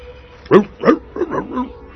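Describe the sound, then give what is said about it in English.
A woman imitates a barking dog, letting out four quick woofs in a loose rhythm, the last two running together. “No, it's the dog. Exactly. It's like, I'm calling to defend myself. Exactly. And he sounds like...”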